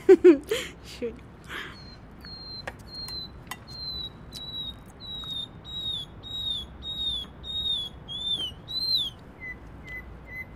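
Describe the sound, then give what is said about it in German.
A nightingale sings a long series of repeated high, pure whistled notes, steady, with a few sharp chirps at the start over a faint background hum. “Das ist doch keine Amsel. Was ist denn sonst? Na, eine Nachtigall.”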